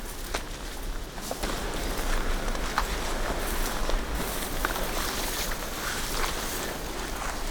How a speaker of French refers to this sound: Sauf qu'ici, ces pâturages sont envahis de fougères. Et tout à coup, hop, voilà. Le son est en train de changer. Le vent. Les fougères.